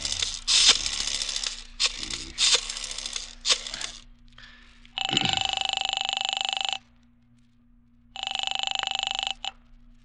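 A rotary phone dial whirs and clicks through several digits as someone calls a private detective, followed by two long, loud electric rings from a telephone with a pause between them.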